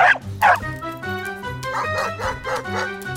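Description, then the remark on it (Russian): A dog named Kusachka lets out two sharp, loud barks, then a quicker run of excited yips, a cable tied to its collar pulling taut, over a steady tonal background. “Трос, привязанный к ошейнику собаки, натянулся.”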